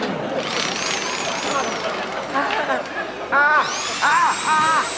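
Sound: power drill running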